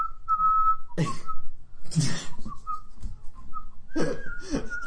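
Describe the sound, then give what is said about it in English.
A jolly whistled video game tune bounces along in short melodic phrases, punctuated by regular soft, breathy bursts like a light beat, with no voices. “And they've got like three songs, and one of them is this jolly whistling song.”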